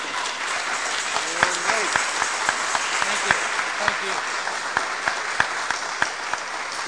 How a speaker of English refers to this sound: So I'd like to give a round of applause to a real warrior for this cause.